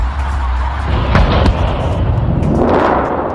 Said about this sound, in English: This all started with a huge blast.